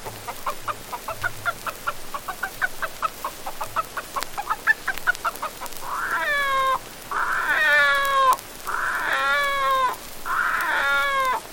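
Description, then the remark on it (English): A human voice imitates a hen cackling in a hen roost, rapid and rhythmic for several seconds, then breaks into four loud, drawn-out crowing calls like a rooster chorus, clear. “A hen cackling with the rooster chorus.”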